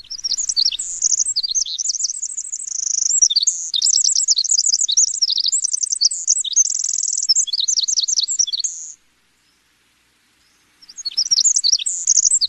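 winter wren song

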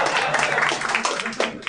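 audience clapping and cheering

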